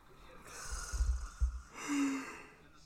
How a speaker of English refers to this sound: And with that, with me yawning and whatnot, I... Oh, I'm out of here.